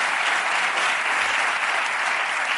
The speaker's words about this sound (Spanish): por mí está cerrado el tema, así que joder, un aplauso para